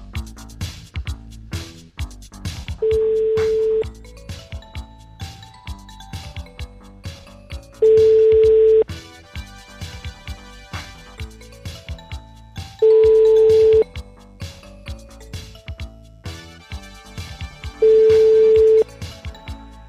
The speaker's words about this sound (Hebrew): אה, זה הפתעה? כאילו מה, עכשיו אתה מתקשר ואנחנו נשמע את הקול של הטלפון מצלצל?